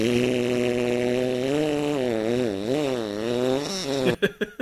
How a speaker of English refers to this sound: Perhaps you need some more farts!